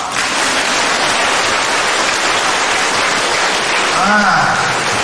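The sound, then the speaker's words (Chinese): Sustained applause from an audience at a Buddhist teaching talk, a dense steady patter of clapping throughout at a constant loud level, with a brief voice rising faintly near the end. “开悟，想得通就叫开悟，鼓掌。”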